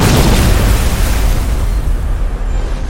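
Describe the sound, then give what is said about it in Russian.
A deafening, powerful explosion tears a huge hole at the waterline of the ship Blura, its heavy low-end boom rolling into a dense rumble that slowly fades over a few seconds, with no voices present. “Несколько секунд спустя оглушительным мощным взрывом вырвало огромную дыру у ватерлинии Блуры.”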